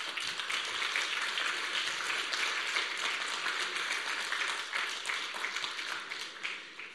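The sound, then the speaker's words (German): Sustained applause from a crowd, given to Jesus in thanks: a dense steady clatter of many hands clapping together for several seconds, fairly loud and even throughout with no talking over it. “Ich glaube, wir machen einfach Jesus jetzt Applaus und danken.”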